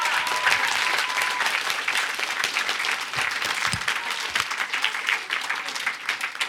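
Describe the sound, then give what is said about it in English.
A crowd applauds a speaker after a talk, steadily and loudly, a dense wash of many hands clapping that holds at an even level for several seconds without any talking over it. “Big round of applause”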